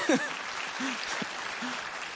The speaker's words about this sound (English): Because since we've been here, okay, you can clap for that.